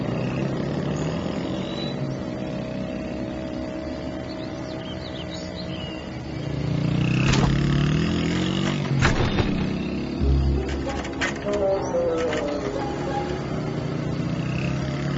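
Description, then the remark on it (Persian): A motor engine hums steadily, then revs louder, with sharp clanks and sputtering knocks as it falters, before settling into a rough, uneven running sound. “چی شد؟ موتور سواب شد.”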